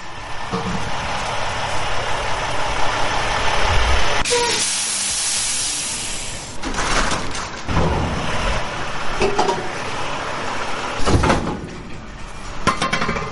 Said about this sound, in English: and most of all, the sounds of beer trucks rolling through the alley. These are the sounds we live with.